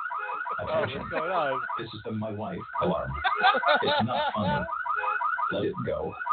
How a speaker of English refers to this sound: Oh, what's going on? This is the my wife alarm.